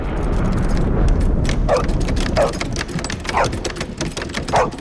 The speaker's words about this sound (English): the doorknob starts moving again with renewed vigour.